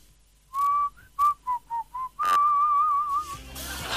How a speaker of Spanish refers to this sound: Hay muchas personas que saben silbar de diferente manera, pero el clásico o el básico, podríamos decir, es el